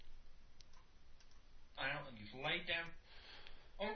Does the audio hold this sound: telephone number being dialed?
no